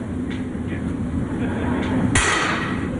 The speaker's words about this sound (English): I'm going to break one of these. Just plastic. You want to try jumping on it? Sure. Here, why don't you try jumping on the floor? Somebody got a bigger hammer? Here, give me that.